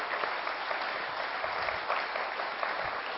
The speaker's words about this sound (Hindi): करतल ध्वनि से हम स्वागत करेंगे और फूलों से भी करेंगे।